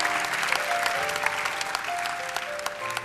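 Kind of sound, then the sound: crowd, audience clapping hands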